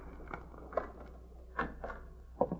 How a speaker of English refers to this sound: I've got a pass key. Do you want me to open the door?